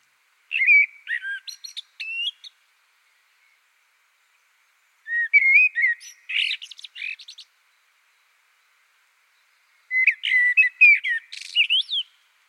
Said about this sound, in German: Aber Vogelgesang kann mehr als uns nur zu erfreuen. Forschende haben herausgefunden, dass er uns mental und körperlich gut tut. Und das Beste, wir müssen dafür nichts weiter tun, als hinzuhören.